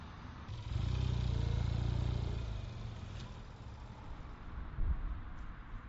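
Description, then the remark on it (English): A vehicle engine rumbles loudly past on a road with car traffic for a couple of seconds, then fades into a steady low traffic hum with occasional clatter and another brief swell near the end. “He stops near the side of a road with car traffic and leans towards a large tree.”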